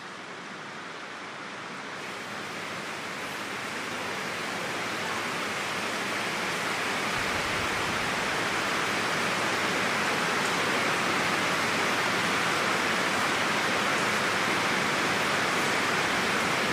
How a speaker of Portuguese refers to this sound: Se você puder, você fecha os teus olhos e ouça esse som dessa chuva.